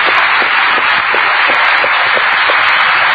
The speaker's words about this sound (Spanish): Yo voy a convocar a mi querido amigo Federico Mizrahi, que es nuestro pianista oficial, y aprovecho, ahí está, vamos a aplaudirlo.